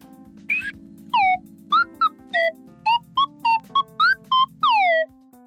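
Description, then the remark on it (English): An Acme whistle blown by a child in a quick series of about a dozen short, bright toots, several swooping down in pitch, over a steady low hum underneath, loud. “It's actually one of the oldest instruments I've got. It's an Acme whistle.”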